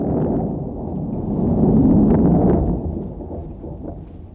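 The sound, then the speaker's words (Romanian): A deep, continuous rumble of thunder, called the chariot of Saint Elijah, rolls and swells to a peak midway before easing off as the sky darkens with rain, with a steady hiss of rain underneath throughout. “Asta e carul Sfântului Ilie. S-a înnegurat văzduhul a ploaie.”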